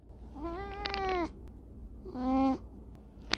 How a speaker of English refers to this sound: I'm here with domestic short hair Tio. Tio, who do you think is going to win, Team Cat or Team Dog?